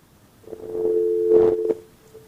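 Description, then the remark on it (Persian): A telephone dial tone drones steadily for just over a second on an open line after a listener's call to a phone-in programme is cut off, a continuous mid-pitched hum with faint crackle and noise, then abruptly cuts off. No one speaks. “بله خب تلفنشان قطع شد.”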